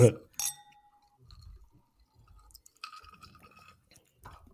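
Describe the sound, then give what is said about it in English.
A sharp clink of glasses in a toast rings out with a short, clear tone that fades within a second, followed by quiet handling noises and a second, fainter glassy ringing. “I will drink to that.”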